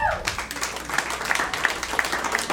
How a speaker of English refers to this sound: Clap your hands if you're on Facebook.